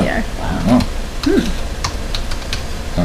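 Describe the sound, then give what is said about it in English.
Scattered clicks of fingers typing on a computer keyboard, irregular, while a voice talks in brief fragments over the tapping, typing in the coffee maker brand Bonavita. “Okay, I'm typing in as we know.”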